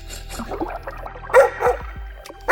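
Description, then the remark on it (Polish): A dog barks in a few loud, separate bursts, with softer whimpering and whining noises in between, and nobody is talking. “Szukaj, szukaj, piesku.”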